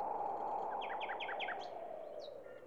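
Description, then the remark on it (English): A bird sings a quick series of bright, repeated chirping notes, followed by a couple of higher whistles, over a steady, faint background hum. “the singing of birds, the patter of rain.”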